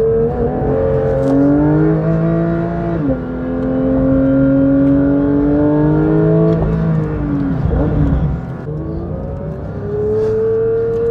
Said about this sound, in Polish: najbardziej nawet wyczynowe auto nie wytrzymałoby non-stop upalania, więc staram się jechać powtarzalnie